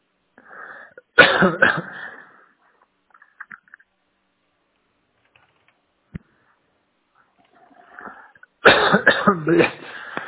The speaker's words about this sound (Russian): Что-то ты кашляешь